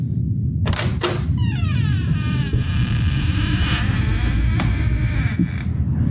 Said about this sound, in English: As they opened the door